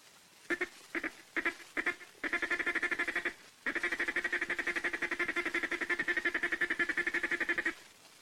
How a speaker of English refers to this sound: Next is the feed call. Say ticka, ticka, ticka, ticka, ticka, ticka, ticka, ticka. Now with your duck call.